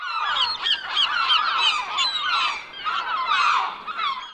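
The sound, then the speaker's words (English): A flock of seagulls calls loudly and continuously, harsh squawking cries overlapping one another throughout, with no voices present. “This is how a seagull sounds.”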